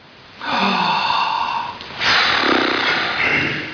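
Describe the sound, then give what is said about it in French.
A long, loud, deep breath of fresh air drawn in through the nose, a brief pause, then an equally long, airy exhale, with no talking. “Oh, il faut sortir, il faut respirer physiquement.”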